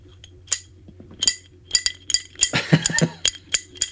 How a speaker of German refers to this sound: Ich stoße mit dir an. Ne? Prost, Prost.